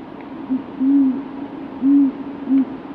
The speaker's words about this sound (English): we're listening to the calls of a horned owl and the lapping of waves on a beach in Wellfleet.